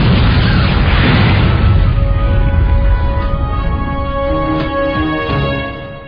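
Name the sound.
explosion of demolition charges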